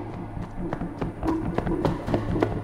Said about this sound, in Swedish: Utan att se mig om börjar jag springa igen.